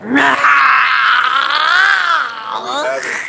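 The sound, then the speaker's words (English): A person imitates a zombie roar with a long, strained, raspy vocal growl that wavers in pitch, sustained loudly for about three seconds before trailing off slightly. “A good zombie roar.”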